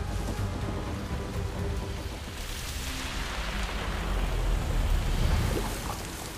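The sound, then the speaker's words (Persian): Heavy rain pours down steadily in a dense, hissing wash that swells louder midway, with a low rumble underneath and no voices. “باران شدید لایه نازک خاک را از بین می برد.”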